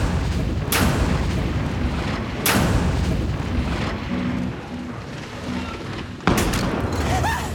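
Three sharp explosive blasts from charges placed by Israeli commandos on the doors of three apartments go off one after another at uneven intervals at Ehud Barak's signal, loud, over a constant rumbling background noise.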